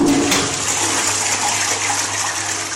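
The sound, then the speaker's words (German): A toilet in a public restroom in Singapore flushes with a steady, loud rush of water that hisses and gurgles for about three seconds over a low, constant hum, with no one speaking. “Unbedingt abziehen, sonst drohen 150 Euro Strafe.”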